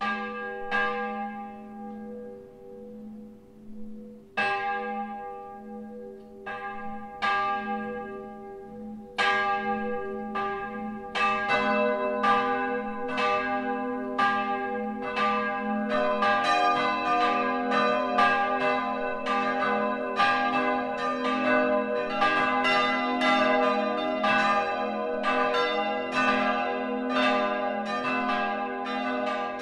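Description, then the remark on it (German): The four bells of the Catholic Christ the King parish church in Roßtal, Middle Franconia, Germany, ring together for the noon ringing in a full, overlapping peal, strikes building from sparse to dense and steady, loud and resonant with a long humming tail and no voices. “In diesem Motiv erklingen die vier Glocken der Roßtaler Pfarrkirche, wenn sie zusammenläuten.”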